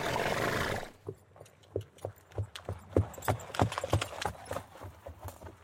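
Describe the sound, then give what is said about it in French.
A small, light grey Camargue horse's hooves clip-clop in a steady, fairly quick rhythm of sharp knocks, moderately loud, following a brief rush of broad noise at the start. “Le Camargue, c'est un petit cheval au poil gris clair, l'un des plus anciens du monde.”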